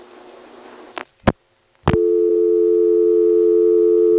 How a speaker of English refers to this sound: Plays twice and dumps you to a dial tone.